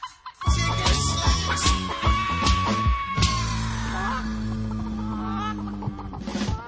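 A loud, busy mashup-style music track layering sampled chicken clucks over a steady beat and sustained bass tones, with sharp percussive hits throughout and no voices.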